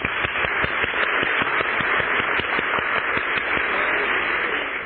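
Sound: audience clapping hands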